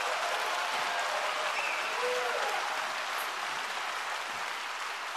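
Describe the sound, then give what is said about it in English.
A church audience gives a hand clap of praise to God, clapping in a steady, dense wash of applause that holds at an even level throughout, with no voices standing out. “Everybody give him a hand clap of praise and I'll...”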